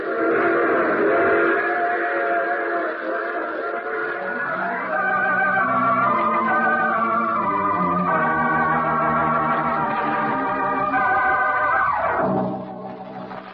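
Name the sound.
train passing with whistle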